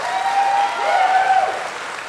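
An audience claps steadily and fairly loudly for a couple of seconds, a dense wash of many hands with a few cheers or whistles rising above it. The audience is applauding to show they think a question about campaign discussions of Russian sanctions was fake.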